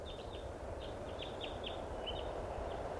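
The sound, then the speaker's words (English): A bird chirps nearby in quick, high, irregular tweets that repeat throughout, set against a steady background rumble of outdoor noise. “There's a bird right here.”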